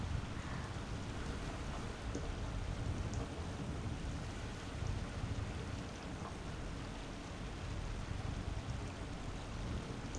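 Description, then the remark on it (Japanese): Steady, continuous watery rush of a small stream formed by rainfall, trickling and flowing, dense and even throughout with no pauses, moderately soft, with no voices. “小川ができて水が流れていってますけど、この音もすごく心地いいですよね。”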